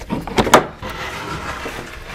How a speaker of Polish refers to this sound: Zresztą zaraz zobaczymy, otworzę te drzwi.